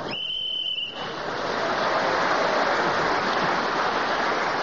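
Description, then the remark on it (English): A brief thin, high steady tone gives way to a dense wash of audience applause that swells after the first second and holds loud and even to the end, with no one talking. “Well, I'm glad you got that comment in, Clement, because it was well worth the applause.”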